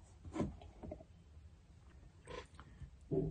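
A quiet sip from a drink: a few short, soft slurping and swallowing noises spaced over a few seconds, with no talking.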